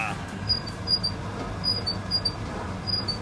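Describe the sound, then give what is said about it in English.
A washing machine on its spin cycle gives off short, high-pitched squeaks, about five in three seconds, repeating in a steady rhythm over a constant low mechanical rumble. “Oh, yours has got a nice little squeak to it.”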